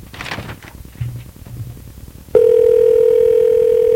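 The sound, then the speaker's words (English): After a couple of seconds of low, muffled background noise, a telephone ringback tone abruptly starts while calling Barry, Vermont: a loud, steady electronic hum that holds unbroken until the end, with no one talking. “Three rings. Calling Barry, Vermont.”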